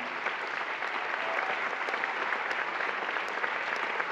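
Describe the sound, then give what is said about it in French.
A crowd applauds steadily for about four seconds, a dense, even patter of many hands clapping at constant loudness with no voices standing out, applauding the man who reconstructed Abel Gance's film. “Et vous l'applaudirez encore plus fort après.”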